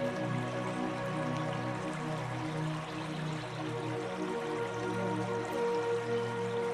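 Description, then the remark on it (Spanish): River water flows steadily and continuously, a soft rushing babble with faint drips, unbroken for the whole stretch, with some sustained low tones humming underneath. “Tumbarte frente al río y dejarte arrollar por su tranquilizador sonido.”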